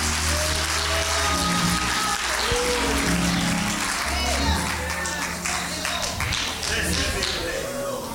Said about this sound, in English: Clap your hands and give him glory. I believe God.